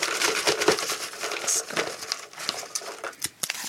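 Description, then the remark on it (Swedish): Busy rustling and crinkling of paper as someone digs through a pile of numbered entries during a prize draw, a dense run of crisp scrapes and flicks as sheets are shuffled and leafed through, with no voices. “Nu får du gräva lite djupare i högen. Bläddrar klar här.”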